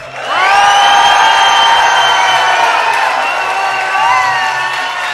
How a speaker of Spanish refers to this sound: ¿por qué no hacemos este tercer asalto por decisión de todo el público con unos gritos?